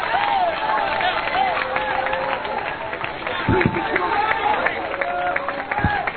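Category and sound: crowd, audience clapping hands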